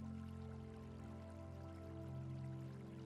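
Water pours steadily from a stone fountain in a large garden, a soft continuous trickle and splash under low, sustained musical tones. The whole sound is quiet and even, with no talking.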